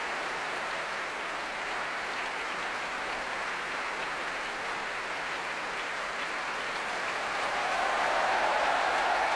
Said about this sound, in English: A huge cheer going around the Royal Albert Hall for the Choir of the Enlightenment. They're really the stars of this work. Marin Alsop gesturing to the whole orchestra of the Age of Enlightenment, and she and her soloists taking another bow.